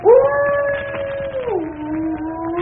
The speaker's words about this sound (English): Listen to that dog. He's in an ugly temper.